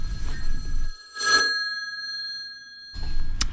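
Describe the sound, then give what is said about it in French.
A telephone ringtone chimes in short bright bursts with sustained electronic tones between them, clear, with no one speaking over it, signalling that a caller is live on air. “C'est la petite sonnerie qui nous dit qu'on a quelqu'un en direct.”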